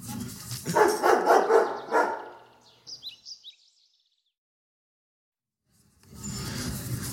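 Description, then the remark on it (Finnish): A dog barks in a loud, rapid flurry of overlapping barks, followed by a few brief high chirps, several seconds of silence, then a steady rushing noise. “Feidan hiljaa ulos tässä ja pistetäänkö vähän koirahaukuntaa tähän väliin?”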